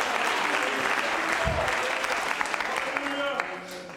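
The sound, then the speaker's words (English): A church audience claps steadily to trust the Lord for victory, a dense wash of many hands sustained throughout, fading slightly at the very end, with faint voices mixed beneath the applause. “Oh, would you clap your hands and trust the Lord for victory?”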